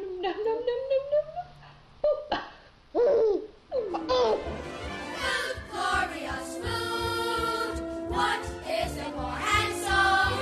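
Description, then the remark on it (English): A baby in an online video, eating green beans, babbles and coos in rising, sing-song bursts, fairly loud, with squeals and giggly sounds mixed in over about ten seconds. “You know, people putting baby videos on the internet is one of my favorite things about the 21st century.”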